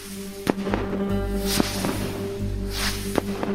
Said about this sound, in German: auch bei Raketen, nur das sieht man nicht, weil die Schnur brennt ab, bis in der Zeit fliegt die Rakete hoch. Und dann erreicht die eine kleine Schnur und die bohrt sich dann weiter ins Innere, was da auch immer drin ist. Und erst dann explodiert.